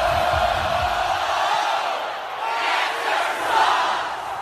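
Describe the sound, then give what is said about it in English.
Purdue fans in a huge stadium crowd chant "Cancer sucks" in unison at the start of a game against Ohio State, replacing their usual chant. A dense roar of many voices rises and falls in rhythmic surges, loud and sustained throughout. “So they shouted "Cancer sucks."”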